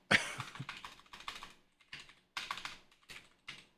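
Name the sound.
coughing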